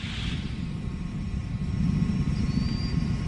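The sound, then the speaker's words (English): Space shuttle Discovery's three main engines give off a deep, continuous roar as they throttle back up, heavy in the low end and steady throughout, with a faint thin whine flickering above the rumble. “Commander Steve Lindsay acknowledging the call from Capcom Charlie Hoba as Discovery's 3 main engines throttle back up.”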